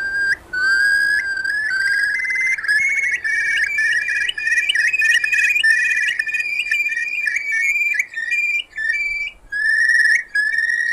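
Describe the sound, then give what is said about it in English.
A Eurasian curlew, a robust brown bird about the size of a crow with long legs and a long, down-curved bill, calls in a long, loud, clear whistling series, the fluty notes rising and bubbling into a rippling trill with brief pauses, alone with no talking. “The curlew is a robust brown bird, roughly the size of a crow, but with much longer legs, and as we've heard, a very long, down-curved bill.”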